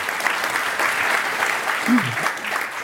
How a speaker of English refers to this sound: So you give them a round of applause, guys.